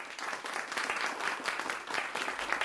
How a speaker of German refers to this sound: So klatscht man mit den Händen Beifall, wenn einem eine bestimmte Darbietung gut gefallen hat.